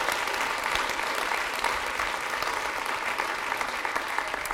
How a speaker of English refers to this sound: If you believe that, then put your hands together and give God a hand clap of praise.